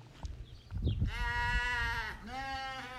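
Goats, among them one named Gracie, bleat loudly outside the stalls in two long, wavering calls, the second overlapping the end of the first, over a low rumble of background noise.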